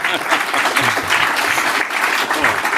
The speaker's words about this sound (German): Einen Applaus für den Red Planet, bitte.